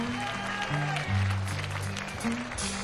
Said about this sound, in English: How about a big round of applause for one of the greatest entertainers of all times